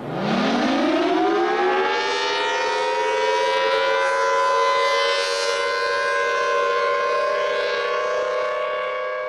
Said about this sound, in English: If you're old enough, you may recognize that sound as an old civil defense siren. That's right.